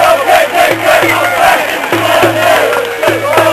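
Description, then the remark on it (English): A large crowd at a street protest, led by a Black Bloc group dressed in black and carrying black flags, chants rhythmically in unison, loud and continuous. Shouted voices rise and fall in repeated bursts, and many people clap over a dense wash of crowd noise. “As the Black Bloc walks down, chanting, a lot of people clapping as they walk down the street.”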